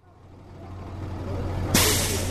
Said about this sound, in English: A yellow school bus pulls up and idles outside a YMCA shelter in Montreal.